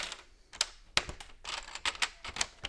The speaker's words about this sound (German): Das Arbeiten ist fast geräuschlos. Nur das klickende Geräusch, wenn ein Mitarbeiter Legosteine in die Basisplatte drückt, die stabile Grundlage jedes neuen Modells.